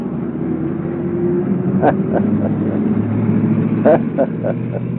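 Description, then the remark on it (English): An old school bus idles and rumbles, its low engine drone steady, while short squealing brake bursts cut in once and then in a quick cluster of several squeaks. “Brakes squeak on that old school bus.”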